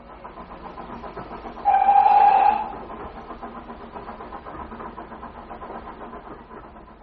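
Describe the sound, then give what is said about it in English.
A steam train rumbles steadily along, its whistle giving one loud blast lasting about a second early on before the even chugging carries on alone. “If we're quick, we can be in Woking by 11 o'clock. The train only takes an hour.”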